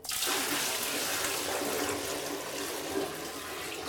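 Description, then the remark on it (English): A steady, loud rush of water from a bucket, filled at the bathtub, is dumped into a toilet bowl with urine in it for several seconds, a continuous splashing gush that makes the toilet gurgle, with no voices. “So I use the bathtub and I fill up the water bucket.”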